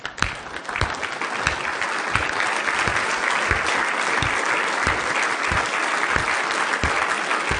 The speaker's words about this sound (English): I just want you to stand with me. I just want to give a hand to Joel.